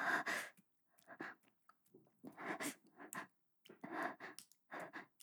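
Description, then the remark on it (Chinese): Heavy, ragged panting breaths come in a rapid, uneven series of breathy bursts with brief pauses between, close and fairly loud, with no talking. “什么什么喘息声？你听错了吧？是因为今天外面有点冷。”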